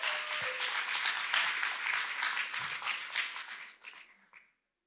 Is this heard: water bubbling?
no